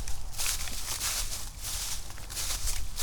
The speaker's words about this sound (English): Tobe stomps through the grass so he can get up to the edge of the creek here.